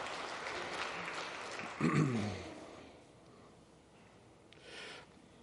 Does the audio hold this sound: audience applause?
yes